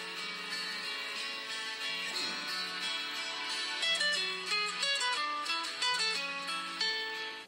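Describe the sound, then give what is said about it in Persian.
A mobile phone rings with a melodic ringtone, a steady run of bright electronic notes stepping up and down, playing continuously and fairly loud with no voices over it. “گوشید زنگ میخوره.”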